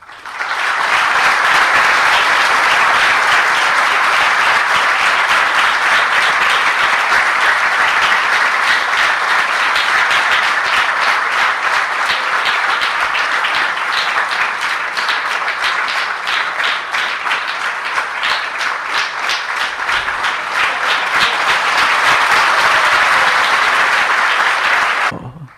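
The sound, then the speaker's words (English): A large audience at a presentation applauds continuously for about twenty-five seconds to welcome one another, a dense, steady wash of many hands clapping at once, loud, fading out only at the very end. “And therefore, I would like all of you to welcome each and every member of this audience with a big round of applause.”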